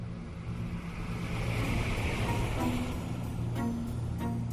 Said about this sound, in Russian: Автомобиль медленно отъехал. Я смотрел ему вслед, пока он не свернул за угол и не пропал.